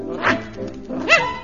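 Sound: puppy barking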